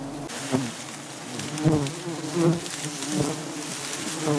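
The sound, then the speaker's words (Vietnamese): A dense, steady hum of many honey bees buzzing around a hive in a melaleuca forest, with individual bees swelling louder now and then as they pass near; no voices. “Ong mật vốn rất thích làm ổ ở những nơi này.”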